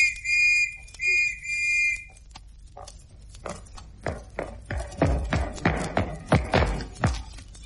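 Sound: police whistle being blown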